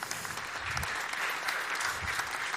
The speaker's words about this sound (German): Einen ganz herzlichen Applaus erstmal